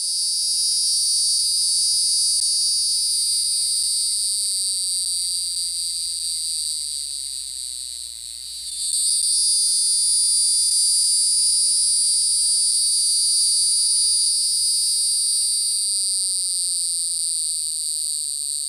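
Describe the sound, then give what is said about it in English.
A loud, continuous high-pitched cicada drone, the hieroglyphic cicada's call, buzzing steadily for nearly twenty seconds with a brief dip and swell in the middle before resuming at full intensity. “So just to reemphasize, if you've heard a cicada, it's very, very likely that it was the hieroglyphic cicada. So let's take a listen to that call.”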